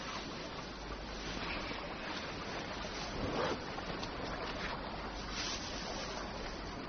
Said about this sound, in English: I listen to the water in the nights. The movement of it with the tides. It's like breathing. The world breathing.